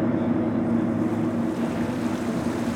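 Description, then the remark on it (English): A steady, loud engine drone of a boat cruising on the ocean around Southeast Farallon Island, with a constant low hum and rushing wind and wave noise, no voices present. “We cruise around the island, getting a better view of the field research station, and I'm delighted to see some sea lions swimming playfully after the boat.”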